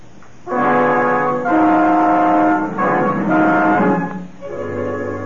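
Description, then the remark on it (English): A rickety old Fiat's horn blares in several long, loud honks, one after another, over a low rumbling engine. No one speaks. “We rented a rickety old Fiat and made all the necessary preparations for our trip.”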